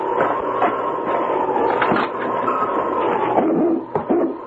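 A husky named King whines and whimpers in a long, wavering cry at a cabin, broken by a couple of short barks, fairly loud over a steady rushing background noise.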